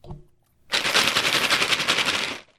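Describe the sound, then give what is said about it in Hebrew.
A large twenty-sided die, rolled during a tabletop role-playing game, tumbles across a table in a rapid, dense clatter lasting under two seconds, preceded by a short low knock, then stops abruptly. No one speaks. “רגע, להביא לפה קוף 20 ולגלגל קוף 20 על השולחן, אני לא חושב שגלגלתי קוף 20 בכוונת משחק כבר הרבה מאוד שנים.”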